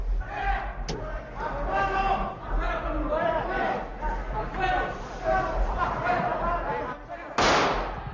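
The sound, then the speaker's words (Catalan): Loud, overlapping shouting from several voices in the Spanish Congress of Deputies on 23 February 1981, as a Civil Guard lieutenant colonel stages a coup during the investiture vote session, broken by a sharp gunshot early on and a harsher burst of gunfire near the end. “Aquí va començar l'estimada de trets.”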